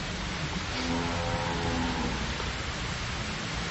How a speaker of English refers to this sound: Ooh, raining.